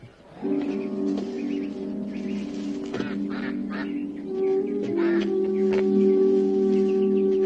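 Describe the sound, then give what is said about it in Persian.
A duck quacks steadily and loudly, its nasal, buzzy calls running together for several seconds with a few higher chirps mixed in, and nobody speaking. “الان اردک میارم.”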